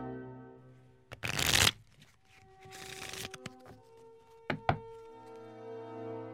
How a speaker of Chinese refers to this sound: 那现在我就来给您拆扑克牌。这是两副崭新的刚拆开的扑克牌，您可以稍微检查一下，如果没有问题的话，我就帮您洗牌喽。